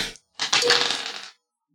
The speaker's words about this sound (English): So, we're going to roll that dice.